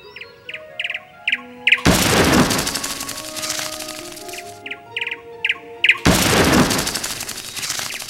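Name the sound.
birds chirping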